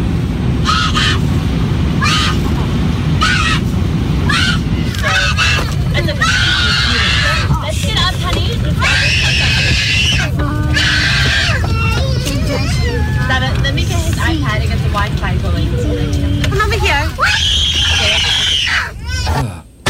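human body sound, child screaming

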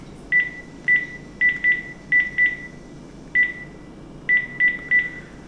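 signal or alarm, phone dialing tones

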